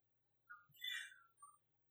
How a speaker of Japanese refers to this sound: 大水のとどろき、この鳥の音が聞こえるのにね、神の声が聞こえないんですよ。